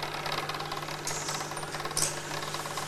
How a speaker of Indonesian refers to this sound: Itu truk gitu tuh.